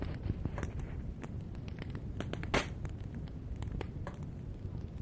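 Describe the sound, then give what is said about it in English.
A wood fire crackles steadily in a fireplace, with frequent sharp pops and snaps scattered irregularly over a low, rumbling hiss, one louder crack standing out midway. “Cracks and pops is the way the wood and the cracks in the fireplace.”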